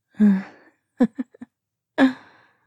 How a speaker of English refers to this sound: Well, it looks like you're breathing a lot more quickly. Does that mean you want me to go faster?